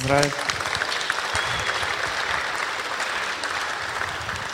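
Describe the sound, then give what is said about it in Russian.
Steady applause from an audience congratulating someone on a birthday, a dense crackle of many hands clapping at an even level throughout, with a brief voice heard at the very start. “Можно аплодисментами”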